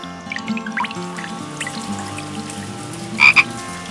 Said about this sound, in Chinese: 青蛙说，下雨了，下雨了。